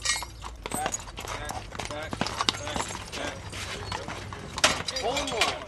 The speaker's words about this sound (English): Then the horses arrive. The black team is first.